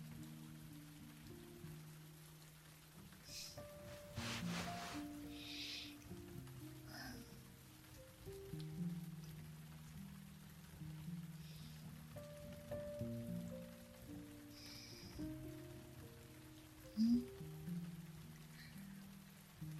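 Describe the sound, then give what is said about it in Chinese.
Raindrops patter steadily on the eaves in a soft, continuous drizzle, with a few brief louder splashes and a low, sustained tonal hum underneath. “我在感受雨滴落在屋檐发出的声响。”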